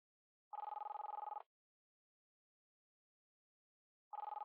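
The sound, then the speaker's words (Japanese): A smartphone's outgoing-call ringback tone: two buzzy, warbling rings just under a second each, separated by a long silent pause. Steady and clear, with no voices. “うん、お兄ちゃんのスマホ。”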